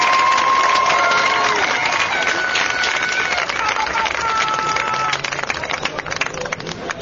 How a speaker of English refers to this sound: Ladies and gentlemen, let's give them a big round of applause and a warm Glenn College welcome home.